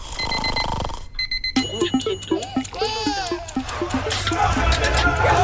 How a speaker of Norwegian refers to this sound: Ja, men da setter vi i gang en liten vignett. Vi setter i gang. Nå skal jeg bare trykke på riktig knapp. Vi tar vignetten først.